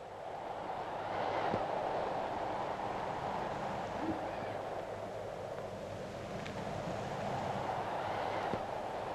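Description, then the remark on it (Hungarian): A steady, broad roar of wind on a sunny day, swelling and easing in slow gusts without a break as it bends pine trees. No voices, just the continuous rushing noise. “Hallja, hogy zúg a szél?”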